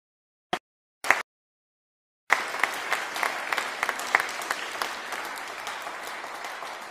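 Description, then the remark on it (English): A couple of isolated claps, a short silence, then an audience at an event breaks into sustained, dense applause for Julian Assange that stays loud and steady to the end, with a few sharper claps standing out. “I think we should give a round of applause to Julian Assange.”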